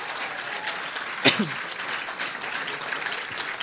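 Steady applause from a church audience welcoming a guest, a dense continuous patter of many hands clapping at an even level throughout, with one sharper louder burst partway through.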